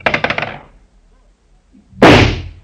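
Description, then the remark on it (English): A single loud shotgun blast booms out at a skeet clay pigeon at a country club outside of town and decays over about half a second, preceded by a quick rattling burst of clatter and a quiet pause. “with his shotgun in his hands, shooting skeet.”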